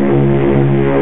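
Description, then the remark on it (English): A voice imitates a boat engine with a loud, steady, low droning hum that holds an even pitch for about a second, alone. “A boat.”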